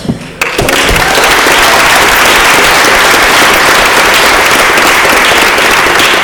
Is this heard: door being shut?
no